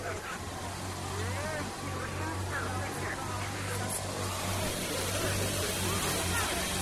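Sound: car engine running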